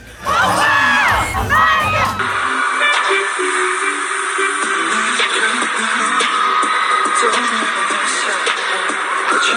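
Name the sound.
audience cheering enthusiastically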